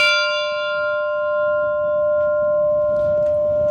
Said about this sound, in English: So we found the ship's bell, which of course means it must be rung.